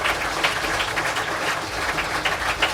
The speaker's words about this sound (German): Vielen Dank, Thomas, für diesen wunderbaren Vortrag und einen großen Applaus.